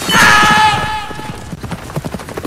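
horse rearing

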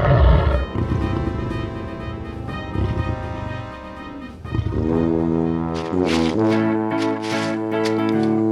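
lion roaring

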